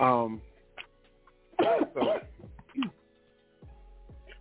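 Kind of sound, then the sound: human body sound, someone coughing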